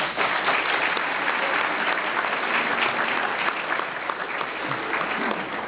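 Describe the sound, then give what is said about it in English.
Steady, sustained applause from an audience at a luncheon after guests are introduced, a dense crackle of many hands clapping at an even loudness for several seconds without a break. “You can applaud.”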